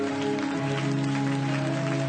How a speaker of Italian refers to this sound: Forte l'applauso a Cristo.